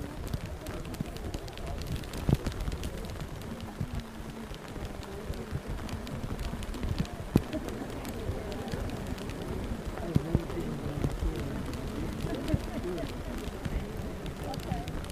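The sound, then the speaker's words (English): Steady rain patters outdoors in September in a dense, crackling hiss with scattered sharper drops, while several people gathered outside, one holding an umbrella, murmur and talk quietly throughout. “So it's interesting that the rain is occurring on the only Wednesday in the last 20 years in which we've met outside in September.”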